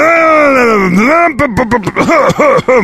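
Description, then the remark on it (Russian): A voice imitates a Subaru's engine revving in place as the driver presses the gas, trying to shift the automatic into drive: a loud, buzzing vocal drone sags in pitch and climbs again, then breaks into a rapid series of rhythmic revving bursts. “А оно просто, просто на месте газует, и все.”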